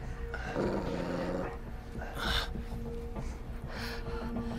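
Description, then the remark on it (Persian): A guard dog, Rex, growls low and continuously while being inspected, rumbling steadily for several seconds with a couple of sharper snorting bursts. “مراقب باش، اون سگ نگهبانه.”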